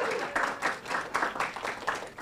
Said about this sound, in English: I want to hear it. I want to hear an applause there because we love Cynthia.